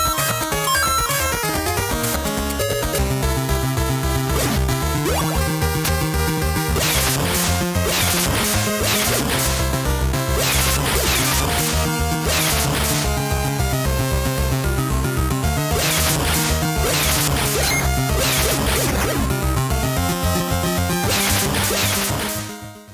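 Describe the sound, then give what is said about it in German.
Video game combat sound effects: bursts of crashing, smacking hits break out repeatedly over a continuous, loud looping tune with a steady bass line, and no one speaks. “Ja, auch die, wie du auch sagst, die ganzen Soundeffekte, die Kampfgeräusche, das ist alles super toll gemacht und genau auf den Punkt, also wenn man es einsetzt, kommen die Geräusche.”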